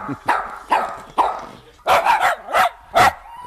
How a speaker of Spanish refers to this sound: Perros diversos. Bueno, varios perros he puesto de diferentes medidas, colores y edades.